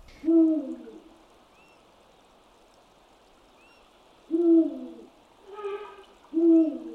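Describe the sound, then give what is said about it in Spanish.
Deep, resonant hoots of an eagle owl perched in the bare branches of a tree, giving its territorial call, several low booming notes spaced by pauses, over a soft steady background hiss with faint higher chirps. “El primero, la rapaz nocturna más grande de nuestros bosques, parece cantarle a la luna con su sonoro e insistente aullido, que puede escucharse desde bastante lejos.”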